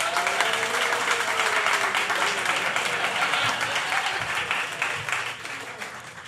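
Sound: audience applause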